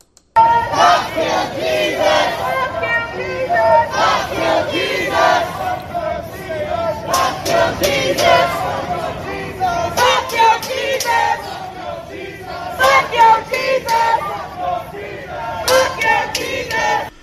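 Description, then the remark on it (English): A large Black Lives Matter protest crowd in front of the White House screams and chants loudly throughout, shouting "F your Jesus" at a street preacher, with rhythmic surges of many voices shouting together in repeated bursts, the roar never dropping away. “That was Black Lives Matter, and they were screaming and chanting, F your Jesus.”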